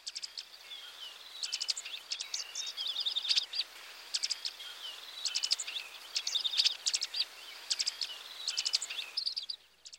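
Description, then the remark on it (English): Sharp, high-pitched call notes of a dark-eyed junco, repeated in quick irregular bursts of ticks and twitters throughout, clear over a faint background hiss. “Here are its characteristic call notes.”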